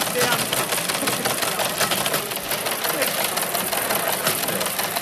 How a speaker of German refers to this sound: Es ist eigentlich ein alter Fernschreiber, den wir jetzt hier angekoppelt haben, dass man da SMS hinschicken kann und der druckt die dann aus.